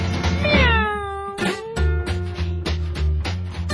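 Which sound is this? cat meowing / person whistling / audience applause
cat meowing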